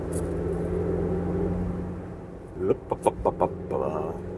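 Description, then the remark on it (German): A car engine hums steadily from inside the vehicle in moving traffic, a low continuous drone, then a quick run of short, sharp bursts breaks in near the end. “Hier ist eine etwas bescheuerte Verkehrssituation.”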